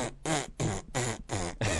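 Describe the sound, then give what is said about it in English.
A voice blows a quick run of loud, buzzy raspberry noises, about five sputtering bursts in a steady rhythm, imitating a short entrance-music fanfare. “his music is a series of fart noises that don't build to anything.”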